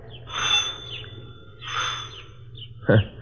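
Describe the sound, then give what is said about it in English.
A doorbell at the front door of a large two-story rooming house at 4287 Ingram Street sounds a chirping, birdlike chime in two bright, high bursts about a second apart, followed by a short sharp knock or thump at the end. No one speaks. “What kind of doorbell?”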